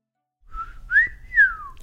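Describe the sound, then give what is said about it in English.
A person whistles an imitation of a meadowlark's song: a few clear, sliding notes that rise and fall around a mid-high pitch, moderately loud, with faint low rumble underneath and no talking. “She's imitating a meadowlark.”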